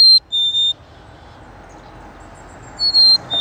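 Black-capped chickadees call in high, clear whistled notes at Kits Beach in Kitsilano in the morning: a short cluster at the start and another near the end, sounding over a steady low rush of car traffic.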